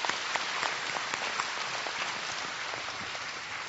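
A crowd applauds a church drama group after its short play, many hands clapping in a dense, even patter that holds at a fairly loud level and tapers slightly toward the end, with no voices over it.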